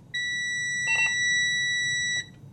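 A loud, steady high-pitched electronic tone sounds continuously for about two seconds, with a brief wavering chirp partway through, over a low background rumble, then cuts off abruptly.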